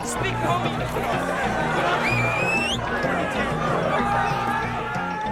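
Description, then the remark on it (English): A dense wash of overlapping voices from a big crowd of about 500 people outdoors, steady and loud throughout, with a rhythmic low thump of music underneath and a rising whistle-like tone cutting through briefly. “Maybe like 500 people at this like exact spot. Like people were just hanging out, like a big swarm of people.”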